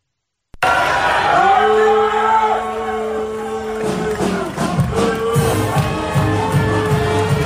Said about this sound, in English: The fact that the booing right into the band starting up is just so great. It's just truly phenomenal. And so we're clear, Willard deserved being booed.